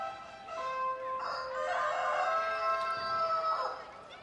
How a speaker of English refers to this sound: On Bark in the Park night, we hear roosters.